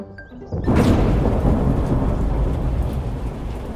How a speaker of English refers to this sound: Oh, it's stormy. We'll have to cancel our picnic.